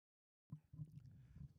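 After a brief silence, some papers are taken out and shuffled, a soft, continuous rustling and handling sound lasting about a second, with no one speaking.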